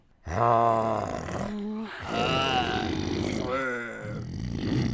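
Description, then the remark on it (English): A person makes a low, nasal growling sound, directing the resonance up into the nose and sinuses and then blocking it off, without using the voice itself: three strained, buzzy bursts in quick succession, loud and gravelly, with no words spoken. “I'm using all this up here to make that low growl.”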